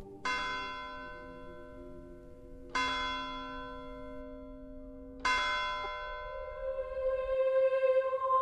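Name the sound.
church bells ringing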